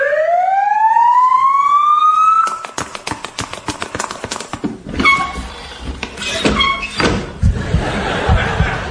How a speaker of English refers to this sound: Right, here we are at the hospital. Never mind that siren.